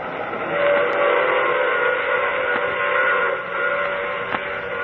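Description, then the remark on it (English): A steam train whistle blows in a long, steady wail over the rumble of a moving train, loud, with a faint clatter of wheels underneath and no voices. “Oh, you have to get off here. I'm sorry. But I'm sure we'll meet again. I take this same train every week at this same time.”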